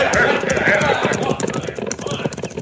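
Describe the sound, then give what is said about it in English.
Hooves of several horses clip-clop in a rapid, uneven patter as a crew of riders sets off to the north, a loud, busy clatter with indistinct voices mixed underneath. “They ride to the north, Cisco.”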